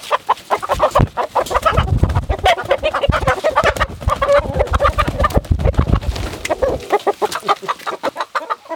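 A flock of chickens clucks continuously, many overlapping birds, with a busy, chattering texture and occasional louder squawks throughout.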